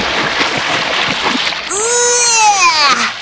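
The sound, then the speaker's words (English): A loud splash of someone diving into lake water, quickly followed by a high, wavering tonal sweep that slides down and fades over a second or so. “Dive into the water.”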